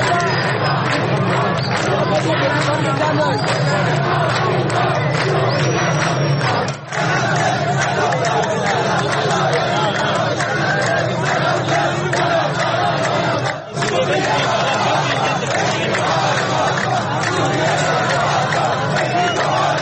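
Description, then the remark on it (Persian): A large protest crowd in Borazjan, Iran, chants slogans over the water being cut off, a dense, loud roar of many voices that stays steady for the whole stretch, broken only by two brief dips. “در تصاویر منتشر شده در اینترنت از تظاهرات اعتراضی برازجان که رادیو فردا مستقلن نمیتواند صحت و سقم آنها را تایید کند، شعارهای گوناگونی شنیده میشود که برخی شعارها پیشتر هم در تظاهرات اعتراضی دیگر در شهرهای ایران به گوش رسیده بود.”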